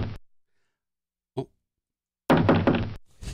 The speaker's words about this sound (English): Oh. Someone's knocking. Yes. We need to talk about... Yes. We need to talk about that knocking.